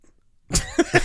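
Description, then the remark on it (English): A single loud burp erupts after a moment of quiet, rough and throaty, with a couple of short guttural pulses trailing off at the end. No one speaks. “I burped. Sorry.”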